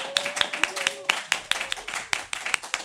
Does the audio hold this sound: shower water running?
no